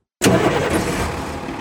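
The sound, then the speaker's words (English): The engine of a loud, regular diesel people-mover bus idles, starting with a sudden burst and settling into a steady, rumbling drone with a broad, rough texture and no voices. “This is a regular old diesel people mover bus. It's loud, even just idling.”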